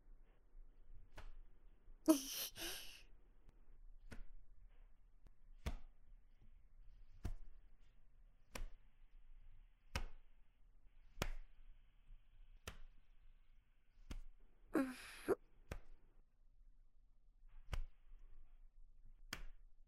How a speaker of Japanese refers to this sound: 肩をトントンするわね。トントントン。